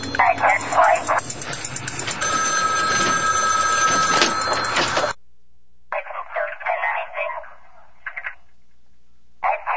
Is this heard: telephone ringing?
yes